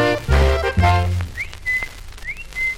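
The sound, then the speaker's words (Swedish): A person whistles to call their bird dog: two short pairs of notes, each a quick rising swoop followed by a steady held tone, clear, following a brief loud, buzzy sound at the start. “Jag visslar på min hund.”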